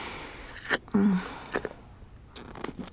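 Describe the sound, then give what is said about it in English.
Wet mouth sounds of a person licking and slurping on a penis, coming in several short, irregular smacks and smears with brief quiet gaps between them, fairly soft. “When I swirl my tongue around it, like this.”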